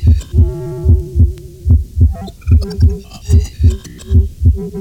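Normal first and second heart sounds: a steady lub-dub rhythm of paired, dull low thuds repeating about every 0.8 seconds, with a faint tonal hum running over the beats.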